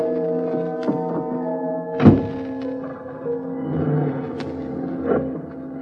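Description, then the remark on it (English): A single solid car door thunk lands near the start, then a steady engine hum builds and carries on as the car pulls away from the curb, moderately loud with no talking. “I got into my car.”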